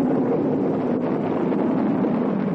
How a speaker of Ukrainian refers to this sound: Ми чуємо звук, як корабель з першим космонавтом на борту стартує з космодрому Байконур.